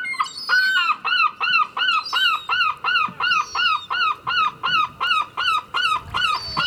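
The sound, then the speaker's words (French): A seagull calls in a rapid, steady series of about fourteen loud, harsh cries, with no one talking. “Barnard, le fidèle goéland, et sa petite famille qui nous a rendu visite presque tous les jours”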